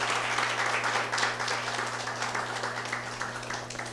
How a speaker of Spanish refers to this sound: Denle un aplauso. Yo voy a darle un aplauso.